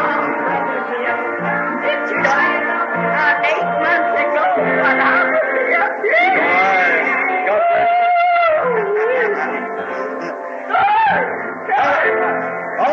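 A church audience shouting in worship: many voices overlapping in loud, continuous cries and wailing, sliding tones, without a break for the whole stretch.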